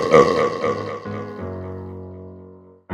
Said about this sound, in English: Let the belching commence!